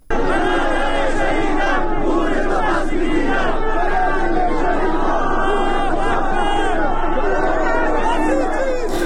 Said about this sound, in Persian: ساعتی پیش و پس از سخنرانی مولوی عبدالحمید در مسجد مکی زاهدان، صدها تن از نمازگزاران تظاهرات اعتراضی برگزار کردند. تظاهر کنندگان شعارهای علیه رهبر جمهوری اسلامی و سپاه سر دادند.